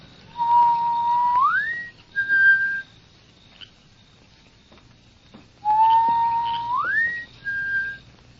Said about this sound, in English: Well, Nancy will hear my whistle.